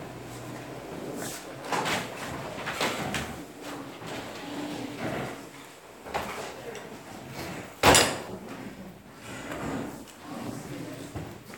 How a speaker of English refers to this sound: I'm just going to close those doors if you don't mind.